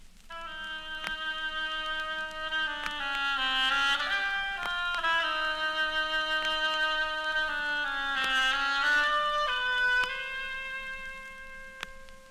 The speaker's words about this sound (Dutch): Sonja de eend komt tot leven via de hobo.